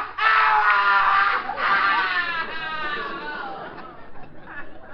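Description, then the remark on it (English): A loud, high-pitched scream from a cellar rises in two long, wavering bursts over about three seconds, then trails off into quieter, uneven background noise. “That scream. That came from the cellar.”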